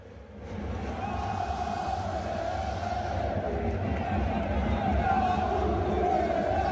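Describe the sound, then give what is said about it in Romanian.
A dense, sustained roar of football fans, including Steaua supporters, chanting together in stadium stands, recorded on a phone from the VIP stand; a loud massed wall of voices with a steady sung tone running through it for the whole stretch. “Sigur, eu filmam și galeria, dar se vedeau și băieții ăștia.”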